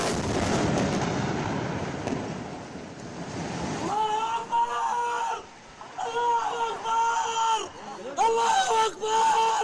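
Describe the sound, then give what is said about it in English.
A heavy, roaring rumble of an Israeli airstrike explosion bringing down the entire Zaffa 4 apartment block fills the first few seconds, then gives way to raised, wavering voices shouting and crying out over lingering noise. “everyone in the basement thought the Israeli airstrike would just target a couple of apartments, not bring down the entire block.”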